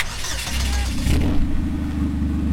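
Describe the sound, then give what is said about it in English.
A Cobalt race car's engine cranks and fires up in a makeshift pit at a racetrack after a routine safety check, settling into a loud, throaty idle with a rumbling low growl and brief revs, no voices present. “Fire it up.”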